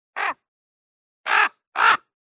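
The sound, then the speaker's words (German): Three harsh, throaty raven croaks ring out with no one talking: a short first call, a pause of about a second, then two longer calls close together. “Ist doch ein ganz lieber Vogel, der Rabe.”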